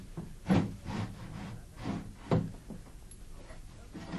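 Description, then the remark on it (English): A bathroom door is eased shut quietly, with a couple of soft thuds and faint shuffling rustles. No one speaks. “Nip into the bathroom, will you? And close the door quietly.”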